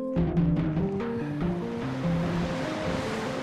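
ocean waves breaking

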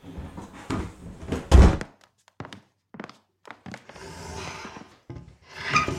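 wooden trunk dragged

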